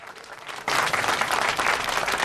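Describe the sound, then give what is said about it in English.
A crowd in a curry house stands up and bursts into loud applause and cheering as two men enter, dense clapping rising suddenly from a quieter murmur and staying strong throughout. “A crowd stands up and cheers as Frost and George enter.”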